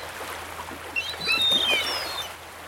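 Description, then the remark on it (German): Several short, shrill gull calls ring out in a brief cluster over a steady wash of surf-like background noise, moderately loud, with no one speaking, on a long sandy beach at Boldenhagen on the Baltic Sea coast of Mecklenburg, Germany. “Zurzeit gehört der Strand aber allein den Möwen.”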